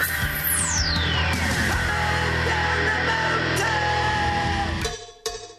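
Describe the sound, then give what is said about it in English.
Radio host Ron Wolfley yells wildly on a Cowbell Friday on The Doug and Wolf Show, 98.7 FM, Arizona's sports station: one loud, sustained outburst lasting about five seconds, layered with a falling whoosh near the start, then breaks off abruptly with a brief final burst. “A typical Friday is Ron Wolfley yelling like crazy on a Cowbell Friday.”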